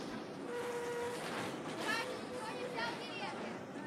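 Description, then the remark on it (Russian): A tram rumbles along its rails with a steady mechanical roar and a faint tonal motor whine, while indistinct chatter from passengers murmurs in the background. “Спокойно, ты меня от радости чуть с трамвая не спихнул.”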